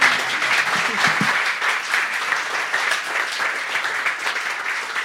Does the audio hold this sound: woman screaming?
no